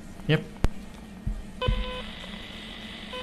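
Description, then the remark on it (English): A sharp click, then an electronic DTMF tone from the touch keypad of a handheld radio, dialing the number of a repeater station in southwest Sweden, rises and holds steady to the end, clear, over faint background murmur. “by simply pushing the transmit button and then dialing in on the touch keypad here, which is a bit like a telephone keypad, the number of the station that I want to connect to.”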